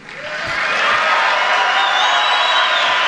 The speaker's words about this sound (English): Yeah, that got a big round of applause. President depicting the impeachment process of him, the hearings, as a scam. That got a big round of applause.